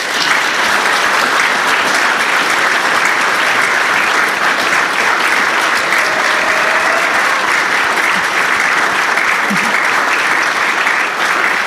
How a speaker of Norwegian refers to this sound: gi han skikkelig applaus.